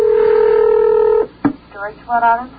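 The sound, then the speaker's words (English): A steady electronic telephone tone holds for over a second, cuts off with a click, and then a voice starts speaking over the phone line, on a call from WUSB Radio in Stony Brook, New York, to Hawaii. “Of course, they don't answer their phones right away.”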